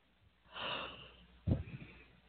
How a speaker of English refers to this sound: We've got Venus, my puppy dog, is in between us, and she's chilling out with us. If you hear a snore, that's because Venus, the dog, is snoring. She's chilling.